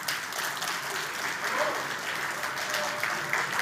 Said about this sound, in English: We are out of time. Big round of applause again, please